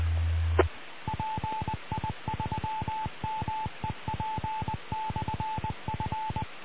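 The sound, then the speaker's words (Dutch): A repeater's automatic call sign identifier keys out a steady, mid-pitched Morse code tone in quick dots and dashes for several seconds, sounding alone over faint radio hiss. “Goed, dat is de callgever van de repeater.”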